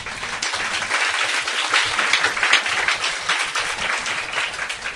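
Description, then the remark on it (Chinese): Sustained applause from an audience, a dense wash of many hands clapping steadily for the full five seconds, fairly loud and even, with no voices over it. “俾掌声我啊！”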